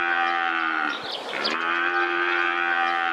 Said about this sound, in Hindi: गाय। जी ये गाय है, और अगर बैल हुई तो?